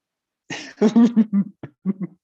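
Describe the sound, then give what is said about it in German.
Someone clears their throat, a rough initial rasp followed by several short, guttural voiced bursts in quick succession, with no talking. “Ich mache kurz eine Räusperpause.”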